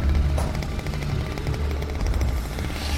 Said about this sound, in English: As he passes a row of trees, the monster appears between them. Joe whips around, slashing the air with the chainsaw.